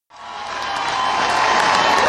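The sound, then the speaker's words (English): A large concert crowd roars and cheers as the band leaves the stage after saying goodnight, a dense wash of noise that swells steadily louder, with scattered whistles and shouts rising above the din. “The crowd was very into it. Listen to the crowd.”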